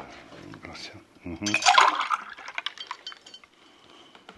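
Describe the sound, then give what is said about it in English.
At his home in the hills high above Port-au-Prince, Bazin pours himself juice into a glass in a short, splashy gush with a few light clinks, preceded and partly overlapped by muffled talking. “At his home in the hills high above Port-au-Prince, Bazin pours himself juice.”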